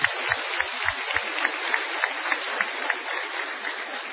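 A crowd applauds steadily, a dense wash of clapping with a few sharp low thumps near the start, holding at moderate loudness and easing slightly toward the end.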